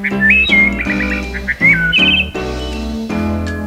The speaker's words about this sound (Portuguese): Podem ler o vosso livro comigo e saberão que devem virar a página quando ouvirem um passarinho a cantar assim.